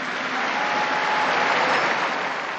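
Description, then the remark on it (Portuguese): Steady applause from a large crowd for a newly beatified woman, requested by Pope Francis: a dense continuous patter of many hands clapping at an even level throughout, with no voices audible over it. “Um aplauso alla nova Beata.”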